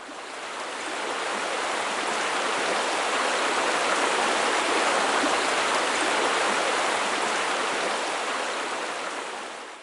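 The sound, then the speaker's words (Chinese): A shower runs in a shower room in a steady, dense hiss of falling water, fading in over the first couple of seconds and easing off at the end, with no voices. “这里面有淋浴室呢，请你洗干净，让身体彻底的放松下来。”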